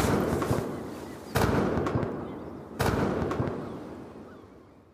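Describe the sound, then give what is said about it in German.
Booming cannon shots fired by the Dutch in Timor to welcome arriving men, one at the very start and two more sharp blasts about a second and a half apart, each followed by a long rumbling echo that slowly fades. No voices. “Die schwachen Männer, die ihre zersetzte und völlig zersalzene Kleidung eng um sich gewickelt haben, werden mit Kanonenschüssen empfangen.”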